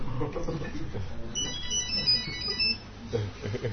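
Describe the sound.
A mobile phone rings during a lecture with a high, warbling electronic tone for over a second, cutting in over a speaker's ongoing talk and a murmur of background noise.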